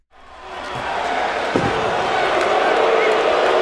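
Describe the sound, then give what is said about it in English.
A large wrestling arena crowd of Chicago fans boos Roman Reigns before his entrance music has started, a loud, sustained roar that swells in quickly and holds steady, with one dull thud partway through. “His music didn't even start, and they're booing.”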